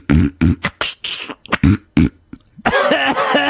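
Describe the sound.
A voice imitates a man's repeated sniffing: about eight short, sharp, breathy bursts in quick, uneven succession, loud, followed by a second or so of voiced, laugh-like sound.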